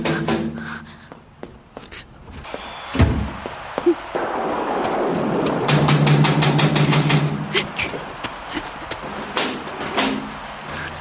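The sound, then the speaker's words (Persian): Knocking on a door: several bursts of quick, sharp raps, growing denser toward the end, over a steady low rumbling hum. “دارن در میزنن.”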